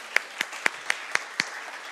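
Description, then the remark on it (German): Six sharp, evenly spaced hand claps in a steady quick rhythm, fairly faint over a soft hiss of background noise, with no voices. “Mega Applaus.”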